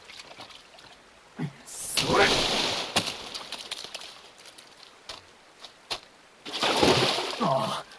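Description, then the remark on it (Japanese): Two bursts of splashing river water, each a second or so long, break the quiet, as if someone is wading or thrashing nearby, with faint vocal sounds in between. “お前は川に入るな。”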